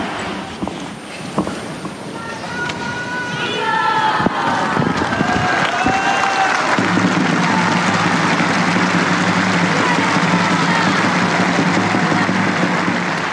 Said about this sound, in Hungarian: Nem maradt el a mai napon sem a taps vihar, amivel köszöntik a Szentatyát